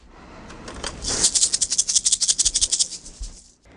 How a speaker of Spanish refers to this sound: Ahora agita tu maraca y escucha el sonido que hace.